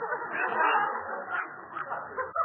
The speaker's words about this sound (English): It's only a dog, silly. I got a little puppy. A dog? What do we need dogs for?